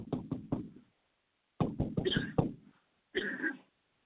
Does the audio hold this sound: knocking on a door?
yes